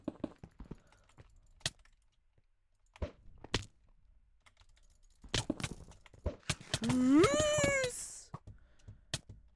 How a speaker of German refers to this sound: Ja, ich glaube, meine Tastatur ist bald komplett broken. Ich drücke einfach W, aber es reagiert nicht.